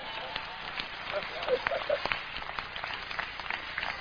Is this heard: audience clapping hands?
yes